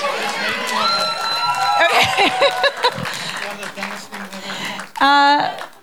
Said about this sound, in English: And then maybe we can stick with the claps and do some rocking claps. So step, clap high, step, clap high, step, clap low, step, clap low. So high, high, low, low.